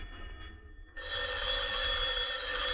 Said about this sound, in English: Telephone's ringing, Danny.